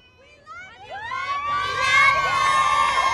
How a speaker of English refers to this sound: Under a full moon here outside Forest Lawn Cemetery, hundreds of … fans screamed out his name as the motorcade drove by.